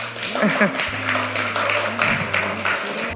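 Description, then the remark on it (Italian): An audience at All You Need Is Pop 2025, the events of Radio Popolare's June festival, applauds itself at the host's invitation, a dense, fairly loud wash of applause with a low sustained hum underneath. “A chi non ho ancora visto questa sera, grazie di essere qua, fatevi un applauso come diciamo sempre.”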